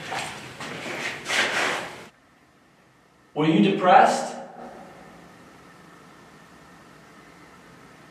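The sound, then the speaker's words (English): A door squeaks once, a brief creaking whine that stands out clearly after a muffled voice and a pause, then fades into a low steady hum. “I sounded like a squeak. Like a door.”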